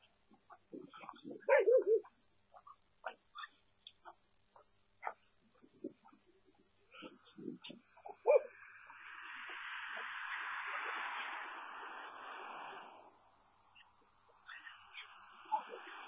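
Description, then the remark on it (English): A dog gives a couple of sharp barks among scattered small noises, then lets out a long, drawn-out whimpering whine that fades, with a few softer whines after. “Do it, dog.”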